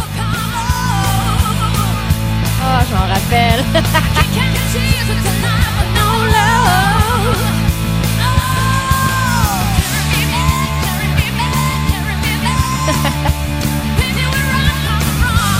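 A loud, driving cover of a classic rock song performed on stage, with heavy drums, distorted guitars and a powerful, shouted female lead vocal wailing over a steady fast beat throughout.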